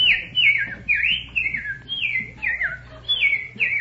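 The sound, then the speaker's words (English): A person whistles an imitation of a bird call: a quick series of about eight high, sliding chirps repeated in a steady rhythm, fairly loud with no talking. “Then there's what are some other bird calls?”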